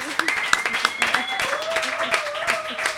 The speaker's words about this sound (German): Einen Applaus.